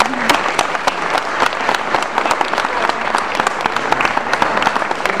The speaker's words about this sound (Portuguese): grande músico de São Paulo, quero uma salva de palmas para ele.